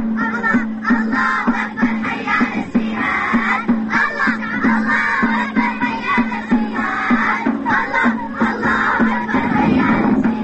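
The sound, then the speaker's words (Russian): A group of Syrian teenagers sings and chants loudly together in the street over a steady, driving drumbeat that keeps a quick, even rhythm, their voices rising and overlapping; an improvised street concert for Turkish journalists, a children's song asking Allah to send everyone a peaceful sky. “Под звуки барабанов сирийские подростки устраивают для турецких журналистов импровизированные концерты прямо на улице.”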